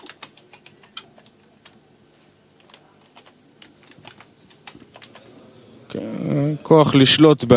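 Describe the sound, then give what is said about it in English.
Irregular clicking of fingers typing on a computer keyboard, quick taps in bursts, until a loud voice cuts in near the end. “We need to have this keyboard here, and I push a button, and it ties out of here.”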